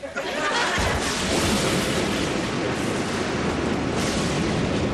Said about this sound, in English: Return, foul storm. I will no longer fear thy lightning bolts, for I will bend my brain to the task at hand and conquer thee.